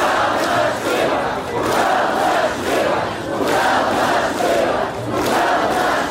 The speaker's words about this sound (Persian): گفته می شود که در اعتراض امروز از 15 تا 50 هزار نفر اشتراک کرده است. آنها راههای اساسی شهر را بستند و در نزد شهرداری شعار دادند.